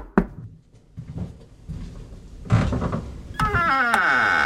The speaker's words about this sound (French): frappe à la porte des Augustines.